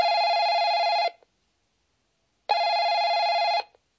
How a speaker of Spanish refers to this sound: Zvoní telefón. Suena el teléfono.